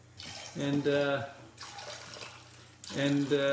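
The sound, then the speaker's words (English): Soda splashes into glasses in two short pours with a gap between them, the ringing pitch rising as each glass fills, fairly loud against a faint background hiss. “All right, now just give that each a little splash of soda there.”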